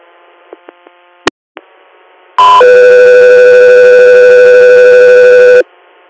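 A few quick clicks and a sharp pop give way to a loud, steady electronic radio dispatch alert tone for Scott 3 Air that holds for about three seconds, then cuts off, with no voices present.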